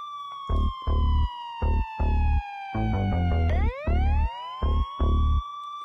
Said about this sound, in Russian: Звук сирены, он недалеко.